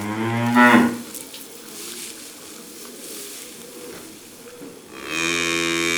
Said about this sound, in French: Et ça, c'est un petit veau. Il ne meugle pas encore très bien, mais ça viendra.